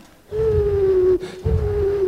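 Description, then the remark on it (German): An eagle owl hoots, a low, steady tone held for well over a second, breaking off briefly and then resuming at the same pitch over a soft rumbling background. “Ein Uhu.”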